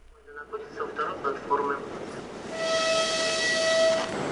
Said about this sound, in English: By the time passengers on the Trans-Siberian Railway arrive here from European Russia, they've been traveling for up to a week across eight time zones.